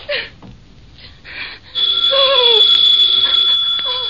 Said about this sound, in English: The phone kept ringing. And ringing.